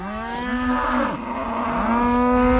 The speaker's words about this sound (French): Il est temps maintenant de déplacer les vaches.